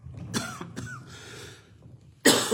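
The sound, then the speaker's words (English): A person coughs several times in quick, harsh bursts during a talk about the Bible, despite a cough drop, with a louder, raspier cough at the end. The sound is fairly loud, with no talking. “My cough drop's not working.”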